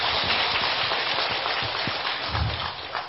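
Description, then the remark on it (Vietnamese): An audience at a Buddhism Today Association event applauds to welcome the MC, dense, steady clapping that blurs into a continuous crackling wash, holding at an even level before easing slightly in the final half second. “Xin vị dành một tràng pháo tay.”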